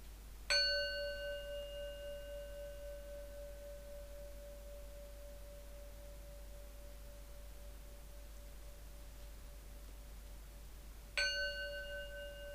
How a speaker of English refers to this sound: Now we're going to do a 20-minute guided meditation. We'll start with three sounds of the bell.